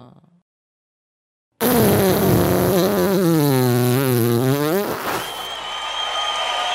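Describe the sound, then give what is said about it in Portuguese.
A loud, drawn-out fart sound effect for a contestant in a comedic farting competition bursts in after a short silence, buzzy and wobbling in pitch for about three seconds, then gives way to a steady rushing noise. “A torcida delira, mas não porque gostou, é por causa que ele se cagou.”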